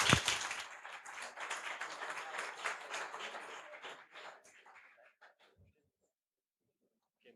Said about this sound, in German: Viel Vergnügen! Applaus!